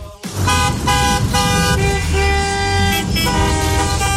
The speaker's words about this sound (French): Ce son, vous le connaissez, c'est celui, bien sûr, des départs en vacances. Et oui, les embouteillages, les klaxons. Et oui, top départ des congés d'été aujourd'hui. Beaucoup de monde sur les routes en direction des stations balnéaires, bien sûr.